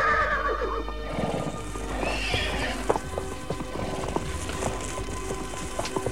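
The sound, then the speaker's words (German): A horse whinnies loudly at the start, followed by steady clip-clopping hooves and soft snorting, with a low rumbling background and no one speaking, as camp is broken and the horses are saddled after breakfast. “räumten die drei Fragezeichen, Donovan und Zieler, ihr Lager und sattelten die Pferde”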